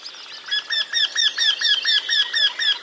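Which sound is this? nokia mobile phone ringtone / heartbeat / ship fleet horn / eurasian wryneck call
eurasian wryneck call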